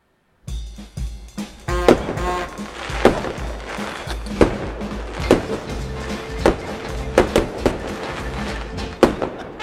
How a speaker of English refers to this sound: We got the fireworks to celebrate. We're all ready to go. Honest to God, when I heard that first firework, I'm like kind of ducking these days.